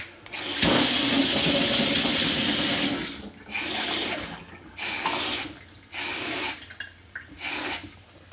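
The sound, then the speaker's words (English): Powder is poured into a drink, a steady rushing pour lasting a few seconds, followed by four short bursts of vigorous mixing with brief pauses between them, fairly loud. “Open, revive, active. Pour in the powders.”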